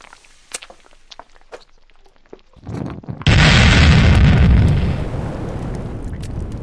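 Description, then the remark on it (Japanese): A few faint clicks and taps as a lighter is lit and thrown toward a shoggoth, then a rising rush that bursts into a loud, sustained roar of flames igniting and engulfing the area around it, which holds steady and slightly settles toward the end. No voices. “少女のためライターに火をつけ、ショゴスに向けて放るあなた。”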